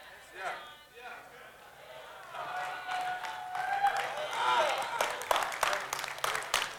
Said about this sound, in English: Thanks for the golf clap.